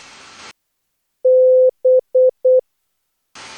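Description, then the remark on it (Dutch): Morse code beeps spelling a word for listeners to guess, in a steady, pure mid-pitched tone: one long dash followed by three quick short dots, loud and clear with silence around them and no talking. “Vervolgens zei ik het betreffende woord in morse.”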